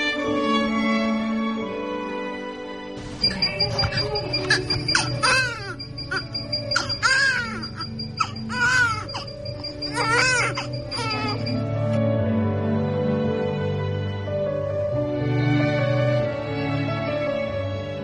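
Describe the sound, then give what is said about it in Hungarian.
A newborn baby cries in a series of rising and falling wails, loud, for several seconds over a soft, steady musical background that continues after the crying fades. “Rég volt, amikor az én kisfiam így sírt, de ha ezt a hangot hallom, ma is megáll egy pillanatra az idő körülöttem, és már is újra ott tartom őt a karomban.”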